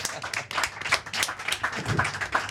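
An audience at la Creedence applauds a man being introduced. Many hands clap in a dense, overlapping patter that holds steady throughout at a moderate level, with no voices on top.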